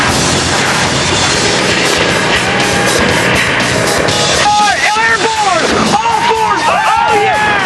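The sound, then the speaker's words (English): The Bad Boys' race car, the Hearse, roars loudly and continuously on nitrous oxide while racing through the mogul and dune-ridden Sun's Anvil, a dense, gritty rumble that breaks into rapid rising and falling revs over the last few seconds. “Hearse's engine is taking the nitrous oxide abuse.”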